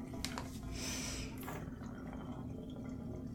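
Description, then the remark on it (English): Liquid soap squirts and squelches into a hand in a bathtub, a wet pouring sound lasting a second or so over a steady low hum of running water in the background. “I'm gonna take this soap and pour some in my hand.”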